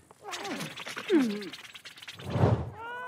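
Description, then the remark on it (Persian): A few high kitten meows with rising and falling pitch, followed by a muffled thump and a brief squeaky mew at the very end. “بیان بچه گربه ها بیان بریم به کارمون برسیم.”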